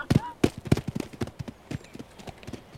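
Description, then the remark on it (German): An old donkey's hooves clop in a quick, steady rhythm, loud at first and then growing softer as it runs away. “Darum ist der Esel weggelaufen.”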